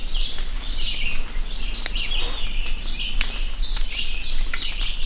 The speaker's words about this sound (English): carefully listened for distinct bird calls. For 10 minutes, they recorded and then compared notes on species they identified inside and outside a 50-meter radius.